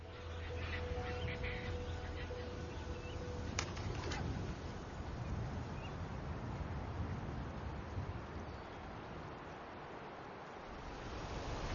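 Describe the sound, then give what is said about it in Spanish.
A steady outdoor chorus of birds of many species calling together at a nesting site, notably pairs of kingfishers, with cooing and occasional quack-like calls blending into a dense, continuous wash of sound at a fairly constant level. “Cientos de especies de aves acuden a este lugar para anidar, en particular las parejas de martines pescadores.”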